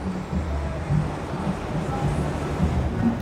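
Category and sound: nature, waves breaking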